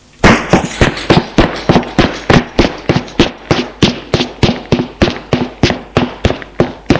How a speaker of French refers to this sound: Il suit un couloir sombre qui sent l'humidité. Et descend des escaliers de bois.